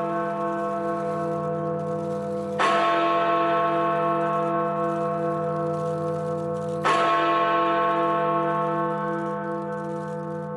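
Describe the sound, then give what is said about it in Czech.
London's Big Ben bell tolls twice, each heavy strike followed by a long, rich humming decay that rings on under the next. Loud and resonant, with no voices. It marks 31 January 2020, when the United Kingdom left the European Union. “Londýnský zvon Big Ben ohlásil 31. ledna roku 2020 konec jedné kapitoly dějin Velké Británie.”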